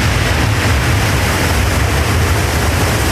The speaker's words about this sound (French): Le bruit des vagues devenait de plus en plus fort, tel les battements de cœur d'un monstre marin.